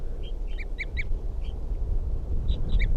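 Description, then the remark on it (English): A wild bird gives a series of short, clipped toop calls in quick bursts, responding to decoys, fairly high-pitched and clear, with a pause midway, over a steady low rumbling background. “Toops of the Wild Bird responding to the decoys.”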